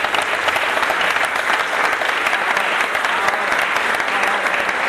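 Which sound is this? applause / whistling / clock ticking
applause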